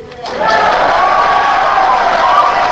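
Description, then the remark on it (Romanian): Journalists at a press conference in Baghdad burst into loud cheering and shouting at Paul Bremer's announcement of Saddam Hussein's capture; it starts abruptly and holds at a steady roar of overlapping voices for a couple of seconds. “Anunțul a fost ovaționat de jurnaliștii prezenți la conferința de presă.”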